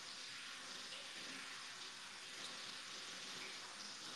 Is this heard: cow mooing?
no